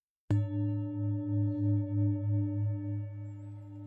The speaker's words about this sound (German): Am besten Sie setzen oder legen sich ganz bequem hin und wenn der Gong ertönt, schließen Sie die Augen so lange, bis der Gong am Ende der Übung wieder ertönt.